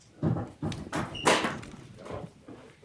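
A door being opened at a commission meeting as it goes into closed session: a few soft knocks and shuffles lead into a louder clunk and rattle of the handle and latch, with no voices.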